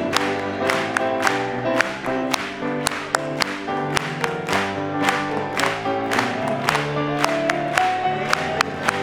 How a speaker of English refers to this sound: We'll clap it to him today.